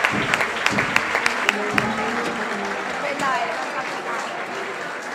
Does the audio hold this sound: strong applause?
yes